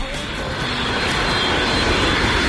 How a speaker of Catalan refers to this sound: ¿Hemos cogido un avión, Sefi? Hombre, un Falcon.